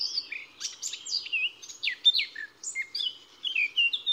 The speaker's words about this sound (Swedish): Lägg märke till hur det börjar lite kantigt, men att strofen förändras och blommar ut och slutar riktigt flöjtigt och nästan till och med koltrastfylligt. Svarthetta är det som gör så.